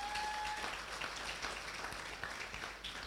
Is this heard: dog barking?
no